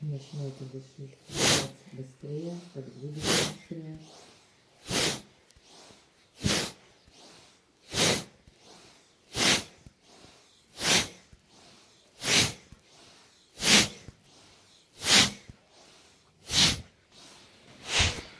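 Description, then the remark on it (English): Forceful, rapid breathing in a steady rhythm during an exercise movement, a dozen or so loud, hissing breaths, each a sharp burst of air. A voice speaks briefly over the first few breaths. “make the breathing more powerful so that we can move more fast.”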